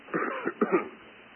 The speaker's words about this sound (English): Just let me have a cough.